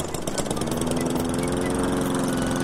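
A lawn mower engine drones steadily and loudly, a continuous buzzing hum with a slight rise at the start and no pauses throughout.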